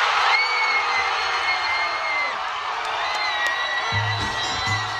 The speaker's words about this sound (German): Jubel an der Copacabana. 2009 bei der Abstimmung des IOC in Kopenhagen fiel die Entscheidung für Rio als Austragungsort der Olympischen Spiele 2016.